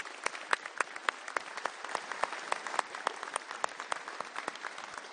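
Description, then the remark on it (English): An audience at an Airstream rally in Salem claps steadily for several seconds, a dense patter of many hands with sharp individual claps popping out, sustained at an even moderate level without voices. “And can we give them another round of applause?”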